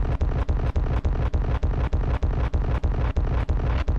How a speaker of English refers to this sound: Am I not supposed to press this explosion button 18 times